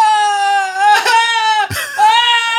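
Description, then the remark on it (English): A young boy wails loudly in sustained, high-pitched cries, broken by brief sharp gasps between sobs, with no other voices present. “He seems really upset.”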